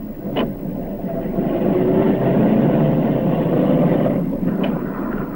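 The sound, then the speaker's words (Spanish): A white car's engine rumbles steadily as the car starts and gets under way, pulling in front of an armoured van, with a sharp click near the start and another near the end. No one speaks. “Luis arranca el coche blanco y se coloca delante del furgón blindado.”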